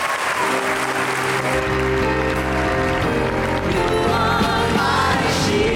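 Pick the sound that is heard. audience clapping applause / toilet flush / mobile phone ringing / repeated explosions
audience clapping applause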